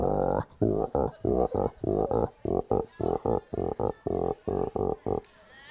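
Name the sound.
voice imitating a frog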